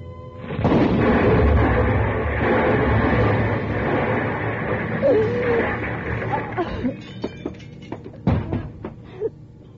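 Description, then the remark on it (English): A sudden, loud accidental explosion erupts and roars for several seconds as a window shatters, then dies away into scattered crashes and falling debris, with a few faint voices underneath. “There's been an accident, an explosion.”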